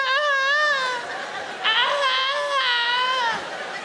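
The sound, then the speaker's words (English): A cat in heat whines in long, drawn-out yowls, three wavering high-pitched wails that rise and sag like a crying baby, loud and steady with no talking over them. “Cats, pussy cats, on heat. Is there a more sinister sound out there than a cat sort of whining?”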